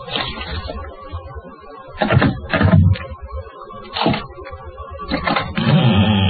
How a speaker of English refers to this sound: Is that the letter with you? Yes, I've got it. Hey, put it under the door. Okay. Here it comes.